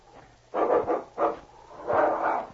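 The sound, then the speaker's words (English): A dog barks in a few quick, uneven bursts as it attacks a man in the snow, a rapid double bark followed by a single one and then a longer, drawn-out bark, over a faint low background hum. “Look out for that dog.”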